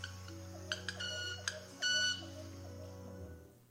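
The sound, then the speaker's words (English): A bird's vibrating wing feathers, their spines rubbing together as it pushes its wings behind in a courtship display, make a few sharp clicks, then a loud, high, violin-like ringing buzz that lasts a moment, heard over a steady low hum with no talking. “And as it does that sort of display with its wings, pushing its wings behind, it's going to be rubbing those feather spines together, creating this very unique and strange sound.”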